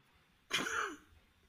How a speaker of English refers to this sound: For what? For one cough. Which is one thing you really want a guy with smoker's lung to do, is cough.